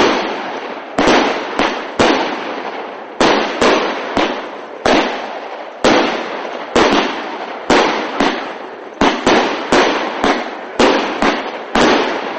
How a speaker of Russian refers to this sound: Однако в 21 веке некоторые абхазы, по крайней мере в лице семьи Сичина, после исполнения всех религиозных ритуалов, запускают у себя во дворе грандиозные праздничные фейерверки.